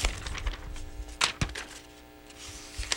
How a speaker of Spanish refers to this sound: ¿Qué es? Son hojas que caen. ¿Y qué significa que caen las hojas? Significa que el otoño ha llegado.